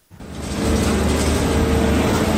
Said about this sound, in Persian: صدای لودرها در عملیات جستجو به دنبال اجساد گروگان‌های کشته شده در نوار غزه.